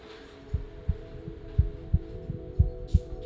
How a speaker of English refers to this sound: There's something about the heartbeat that is lopsided and beautifully egg-shaped.